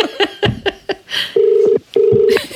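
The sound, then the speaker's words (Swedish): A quick run of about six touch-tone dialing beeps, then two long, steady ringing tones with a short gap between them, heard clearly through a phone line as a call is placed to a pub in Australia. “Så jag ringde till Australiens pub Red Lion för att få detta bekräftat.”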